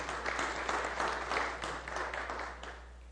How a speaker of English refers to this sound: Let's give all the Dorcai a big round of applause.